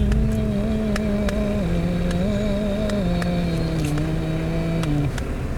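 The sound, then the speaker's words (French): Steady engine hum from inside a moving car, its low tone shifting slightly as speed changes, with occasional sharp rattles and clicks from loose parts over the drone. “Tu fais tout trembler là, dans la voiture.”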